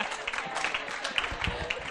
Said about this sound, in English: Oh, that's a good one. I like that. Give that one a round of applause. That's great.